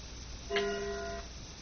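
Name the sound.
clock chiming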